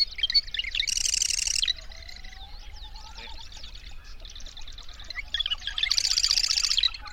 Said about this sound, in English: The marsh wren.